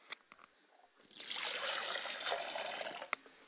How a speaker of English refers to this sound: Ladies and gentlemen, stand to your feet as we get ready to do our libation. I like to pour a glass of water for my Father's spirit, and I say Ashe.